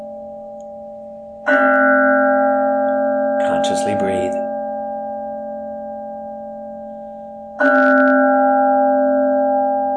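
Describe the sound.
A meditation bell is struck twice, about six seconds apart, each strike ringing with a rich, sustained tone that slowly fades. A calm voice speaks briefly between the two rings.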